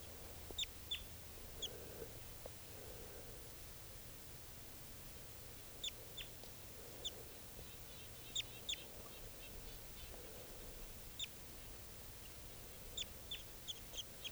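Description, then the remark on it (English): A wild bird, a yellow juvenile about 15 feet up, calls with short, high chirps scattered irregularly, sometimes in quick pairs, over a steady low hiss and rumble. The calls are faint and no one speaks. “Pointed at the wild bird. And it's about 15 feet up.”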